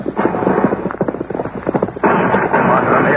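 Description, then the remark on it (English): A rapid, irregular volley of gunshots cracks through a dense wash of noise, the sharp reports crowding together before giving way to a loud, steady roar. “Do a little shooting myself, I think, just to spoil their aim.”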